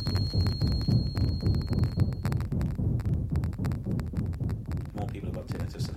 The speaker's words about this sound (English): These simulations of tinnitus and somatic sounds, that is body sounds, were made by Jonathan Hazel on an EMS music